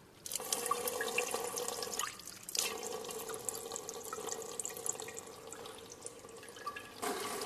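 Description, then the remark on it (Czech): Water runs steadily into a narrow graduated cylinder as 5 ml of water is measured out, a continuous splashing trickle with small drips, moderately loud, briefly interrupted twice before resuming, with no talking. “Zatim ćemo uzeti 5 ml vode.”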